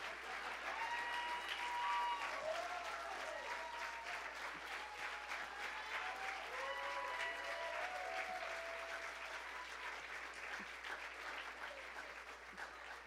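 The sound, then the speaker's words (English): Steady, sustained applause from a large audience, a dense wash of clapping that holds at a fairly even loudness for the whole stretch, with faint voices and cheers mixed in underneath. “Keep clapping.”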